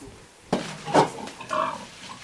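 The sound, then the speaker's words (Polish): Pigs on a farm grunt in a few rough, uneven bursts, one snort-like and sharp, then a longer, lower grunting sound trailing off. No one speaks. “Świnki zdrowe, płaknienie, pragnienie zachowane?”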